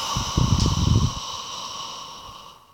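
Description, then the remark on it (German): A single audible breath pushed out through an open mouth during a yoga breathing exercise, a soft breathy rush lasting about a second, followed by quiet with a faint steady background hum. “Wieder ein, macht den Mund auf und macht den laut.”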